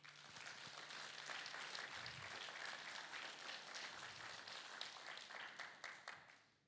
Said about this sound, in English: Can we give them a clap?